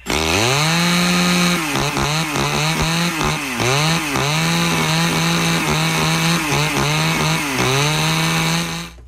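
A chainsaw runs steadily and loudly, its buzzing engine dipping and revving repeatedly as it bites into wood, with no voices present.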